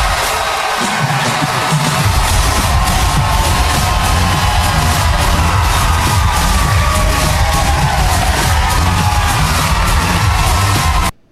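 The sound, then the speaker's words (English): A large crowd cheers and roars continuously, loud and dense with shouts and whoops blended into a steady wall of noise that holds for about eleven seconds before cutting off abruptly. “What a crowd.”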